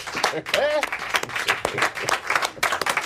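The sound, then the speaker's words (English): Applause erupts after a speech, dense and sustained clapping from a sizable group, fairly loud, with a few voices faintly mixed in. “Like, he's totally right on, like, you know, and, like, the place breaks into applause.”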